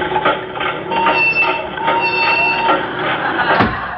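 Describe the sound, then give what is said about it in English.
A dehydrator machine starting up: a loud mechanical rumble with a high whine and a steady rhythmic clatter, running continuously for a few seconds with a sharp knock near the end. “That's enough, Professor. Start the dehydrator.”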